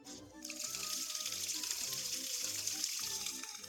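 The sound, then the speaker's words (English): A shower in a small, cramped stall starts running after a brief pause, its steady, dense hiss of falling water continuing evenly for the rest of the moment. “Would you take a shower with me? It's a little cramped, but...”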